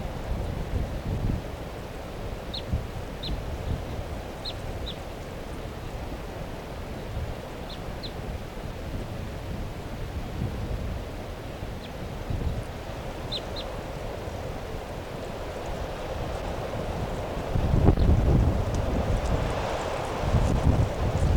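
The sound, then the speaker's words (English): Scattered short, high-pitched bird calls, often in quick pairs, come from the flock mates of a sub-adult female bird, 387, against steady, rushing wind. The calls are faint, and nobody speaks. “And meanwhile, her flock mates are calling here.”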